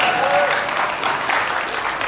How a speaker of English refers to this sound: Loud, clapping, please keep on keeping on. Sounds a little bit like …. But we're a little bit louder than that, though.